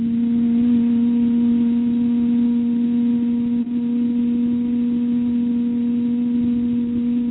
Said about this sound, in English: So breathe in. And just hum. Really empty the lungs, empty, empty. Breathe in, inhale. And hum one more time.